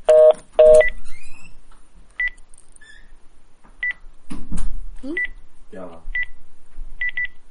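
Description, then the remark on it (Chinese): A string of short telephone keypad tones beeps at an uneven pace, clear, after a couple of loud handling knocks at the start, with a brief murmur of voices in the middle. “哎，你给哪个电话打？”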